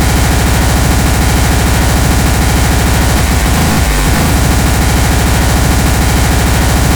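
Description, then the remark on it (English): Anti-tank rifle fire in a loud, harsh, continuous wash of noise, with rapid rumbling low pulses and a heavier burst of booming near the middle. No one speaks. “That's an anti-tank rifle.”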